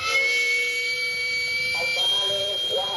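In Mexico City, the steam vent of a small, rumbling street food handcart, where food cooks over charcoal, shrieks continuously at a steady, piercing pitch with layered high tones, loud throughout the full three seconds over a faint low background rumble.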